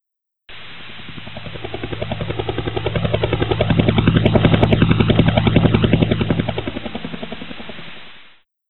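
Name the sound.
helicopter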